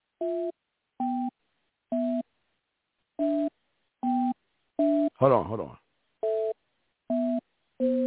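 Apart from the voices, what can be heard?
telephone call tone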